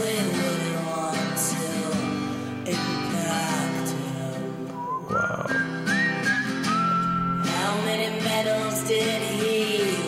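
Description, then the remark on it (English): A person whistles a bright, wavering melody over a full, continuous musical backing, the whistle rising clearly in the middle section. No one speaks. “The whistling.”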